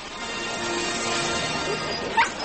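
animal, dogs barking and whimpering

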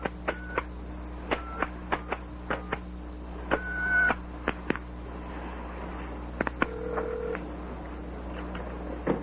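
household object, telephone number being dialed

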